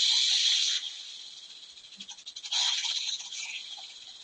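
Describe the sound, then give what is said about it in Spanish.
Snakes hiss loudly in a long, breathy stream that softens briefly in the middle, then surges back into a second sustained hiss. No voices accompany it. “Los serpientes.”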